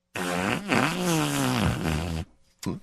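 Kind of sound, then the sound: human body sound, fart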